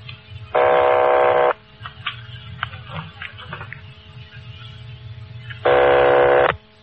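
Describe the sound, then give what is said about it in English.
Two buzzing telephone ring tones on a long-distance line from Los Angeles to a number in Napa, each about a second long and separated by a pause of several seconds, over a low steady hum and faint background noise. “They're ringing the number, Sergeant.”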